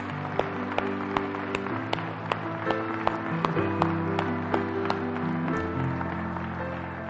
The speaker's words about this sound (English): If everyone would just be seated in the sanctuary for just a few moments, I think it would be okay if we would applaud the Redeemer of souls.